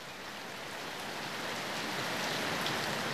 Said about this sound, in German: Aber dann kam der Regen. Vom frühen Morgen bis zum späten Abend strömte er herunter, klatschte und plätscherte vom späten Abend die ganze Nacht bis wieder zum anderen Morgen, setzte eine Weile aus und begann mit frischer Kraft von Neuem.